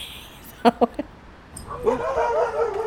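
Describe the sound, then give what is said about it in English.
One of a couple of attack dogs guarding a property fires off three sharp, quick barks, then breaks into a higher, wavering whine and yelp that carries on steadily to the end. “Now, there's a couple of mouthy attack dogs guarding the place.”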